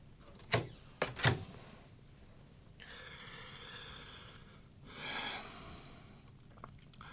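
door being closed

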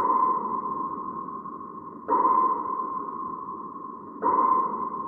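echo sounder sonar pings

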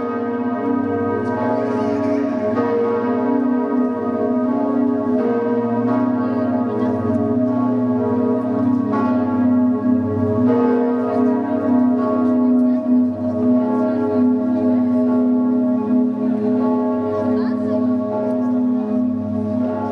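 cathedral church bells ringing

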